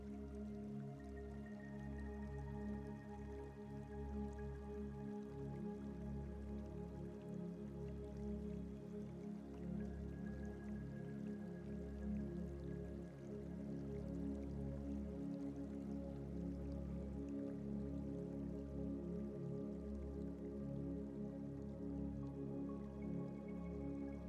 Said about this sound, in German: Und du siehst wieder den Bach, der ruhig und gleichmäßig vor sich hin plätschert.